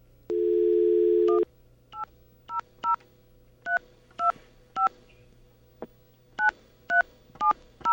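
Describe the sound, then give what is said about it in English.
A steady telephone dial tone hums for about a second, then stops as about a dozen short, bright touch-tone beeps follow in an uneven rhythm while an 800 number is dialed. No one speaks. “So, Bernie, please forgive the dial tone you're about to hear.”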